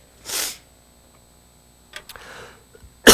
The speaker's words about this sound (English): Sorry, got this cough that it's been hanging around me for a while. I don't think my bike ride helped.